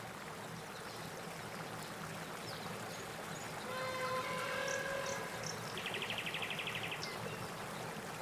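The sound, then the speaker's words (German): Steady rushing of flowing river water during a boat ride on the river fills the whole recording at moderate level, with a brief whistling tone and a short buzzing insect-like trill rising above it midway. “Deine Fahrt auf dem Fluss geht weiter.”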